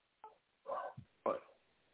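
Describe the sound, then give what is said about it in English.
A female pet dog barks a few times after hearing its owner: a short yip, then two fuller, harsher barks spaced about half a second apart, fairly faint and with no talking over them. “Sorry, my dog. She heard me and now she's barking.”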